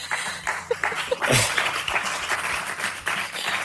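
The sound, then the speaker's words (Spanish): An audience at the Ministry claps steadily for a few seconds, a dense patter of many hands with a brief louder swell midway, continuous throughout. “no solo por estar aquí en el Ministerio, sino porque tenemos aplaudidores en el público.”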